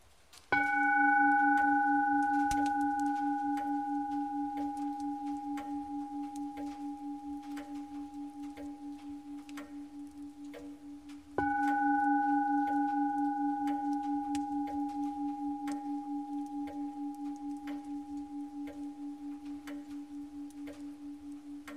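A meditation bell is struck twice, about eleven seconds apart. Each strike sounds a low, steady, pulsing tone with bright overtones that slowly fade into silence.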